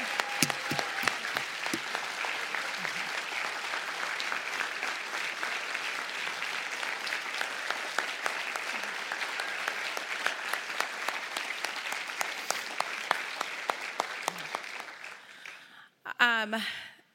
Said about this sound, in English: A life that is coming up on 85 years. Yes. Stand up and give her a round of applause.